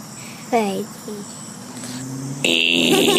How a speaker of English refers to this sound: He just got the game show buzzer. The big old gong show buzzer.